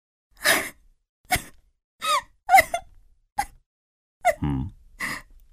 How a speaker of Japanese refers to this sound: なんだ、泣いているのか。